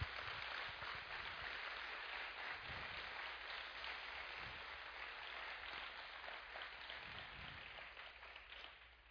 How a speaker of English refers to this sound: And would you guys help me honor him by giving him a round of applause?